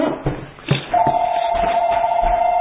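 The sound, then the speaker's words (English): A phone rings with a steady electronic tone that starts about a second in and holds unbroken to the end, fairly loud over faint background rustling. “It's a phone, nowhere else.”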